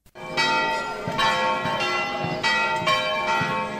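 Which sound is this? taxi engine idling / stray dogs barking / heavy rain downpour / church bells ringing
church bells ringing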